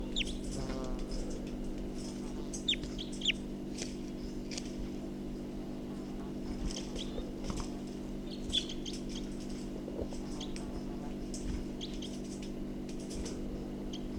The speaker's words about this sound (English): So recording, this is bird 254 again.